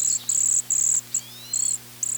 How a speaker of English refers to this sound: Cedar waxwings sound like tiny mice snoring.